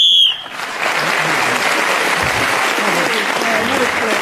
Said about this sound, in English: So, Clement Freud was then speaking as the whistle went again, that extra point, and he's taken the lead, one ahead of Marcus Brigstock.